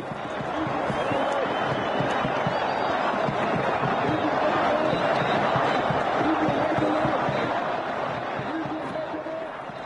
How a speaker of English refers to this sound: You will be getting used now to the sound of the crowds in Tahrir Square in Cairo.